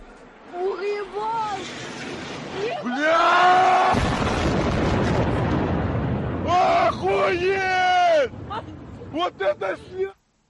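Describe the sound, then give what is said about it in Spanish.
A Russian missile strikes Odesa, exploding in a loud, roaring burst with a deep rumble lasting about a second, while people shout and cry out in alarm before and after the blast. “Es el momento en el que impacta un misil ruso en Odessa.”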